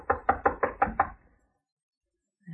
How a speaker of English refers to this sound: Here's his room. I'll knock.